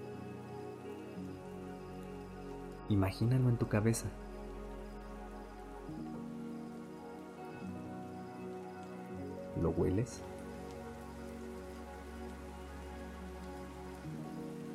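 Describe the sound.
Steady rain patters on a hard surface throughout, an even hiss of drops, while a soft voice speaks briefly twice over it.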